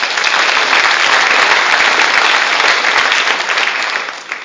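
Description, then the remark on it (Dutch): An audience applauds a newly installed church elder, with steady, dense clapping from many hands, loud and continuous for several seconds before starting to thin out at the end. “U mag daar best even een applaus bij geven.”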